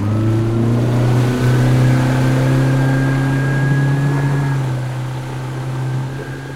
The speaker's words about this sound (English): He started the outboard, released the mooring, and disappeared. Yeehaw! Into the misty dark.